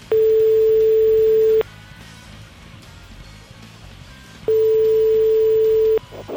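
A telephone ringback tone sounds as a radio station calls a listener back: two long, steady buzzing tones, each about a second and a half, separated by a pause, with only faint line noise between them.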